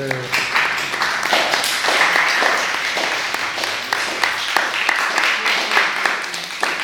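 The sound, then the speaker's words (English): An audience claps steadily for about seven seconds, a dense, crackling wash of many overlapping hand claps at fairly even loudness, with a faint murmur of voices mixed in near the start. “We'll edit out that somewhat charitable beginning to the clap.”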